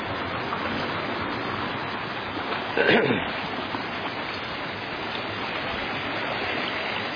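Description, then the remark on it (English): A creek waterfall rushes steadily, a continuous broad hiss of flowing water that stays even throughout, with one brief, slightly louder burst of sound partway through. “There's a waterfall.”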